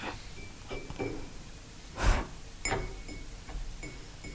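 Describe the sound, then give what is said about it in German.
Fingernails tap a cup about half a dozen times at an uneven pace, each light click leaving a brief high ring, with one louder tap in the middle. No one speaks. “Könnte sogar mit der Tasse, die vor dir steht, klappen. Willst du mal probieren mit den Fingernägeln?”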